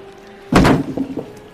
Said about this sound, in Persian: میز تکون خورد. خب میز با نیرو تکون دادم. آقا با پا زدی زیر میز، اصلا پات خورد به من.